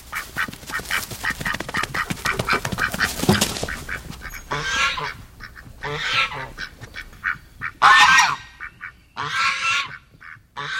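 A flock of geese honks loudly and repeatedly, brassy calls overlapping in a busy chorus with a few louder bursts standing out near the end; no one speaks.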